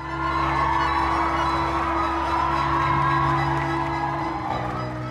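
A large crowd cheers and whoops in a steady, dense roar that holds at an even loudness for several seconds, with a low sustained hum running underneath, as gold flakes of confetti fall at the Queen's Ball, Bridgerton Experience in Atlanta.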